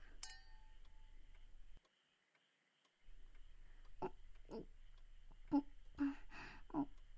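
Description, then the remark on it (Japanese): Two wine glasses clink together once in a toast near the start, a bright ringing tap that fades out, followed by a brief hush and then several soft sipping and mouth noises as wine is drunk in a tatami-mat room. “では、乾杯じゃ。”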